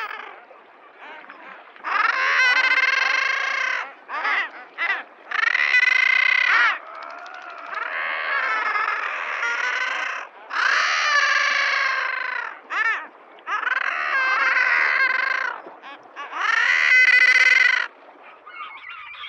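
Common guillemots, duck-sized seabirds of the open sea, give harsh, drawn-out growling calls in a steady series of loud bursts, each a second or two long, with brief pauses between and overlapping voices suggesting a busy colony.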